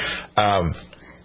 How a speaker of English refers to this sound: So, trying not to cough in your ear here.